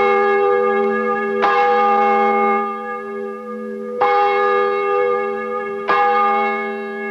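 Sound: church bell ringing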